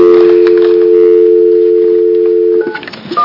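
A steady, loud telephone dial tone hums for a couple of seconds, then breaks into a few quick touch-tone dialing beeps near the end as a call is placed to Chicago, with no voices.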